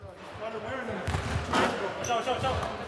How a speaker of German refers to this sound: Dennis Schröder und Daniel Theiss aus der NBA dribbeln und werfen den Ball auf den Basketballkorb.